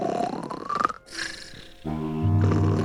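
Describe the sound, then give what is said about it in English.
A voice imitates snoring, making a couple of drawn-out, rumbling throaty noises that end in a loud, buzzing low snore, with no words spoken, as Goldilocks snoring in a telling of the story of Goldilocks and the three bears. “With his little paw, he pulled on the corner and turned down the cover to reveal Goldilocks, who was snoring away.”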